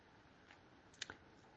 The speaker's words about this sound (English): And again, and I'm just turning the page here.